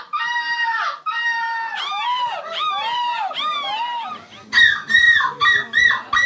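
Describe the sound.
At the European seagull-screeching championship in Belgium, a competitor imitates a seagull's screech with loud, harmonic-rich cries: two long held calls, then a run of wavering, swooping squawks, and finally quick choppy bursts, with no ordinary talk.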